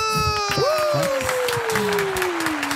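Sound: warm applause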